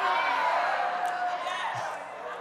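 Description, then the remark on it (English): A church audience shouts and cheers during a preacher's sermon in a steady, dense roar of many voices, loud throughout and easing slightly toward the end, with a few sharper whoops rising above the din. “Oh, God, I'm preaching better, y'all shouting.”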